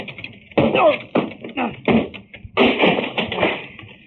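A locked door is battered down: several heavy, uneven thuds against wood, then a loud splintering crash at the end, with cracking and rattling debris trailing off.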